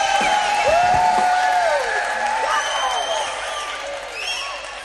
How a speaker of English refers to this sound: All right, here we go. One more time, people. Now the whole damn bus is cheering.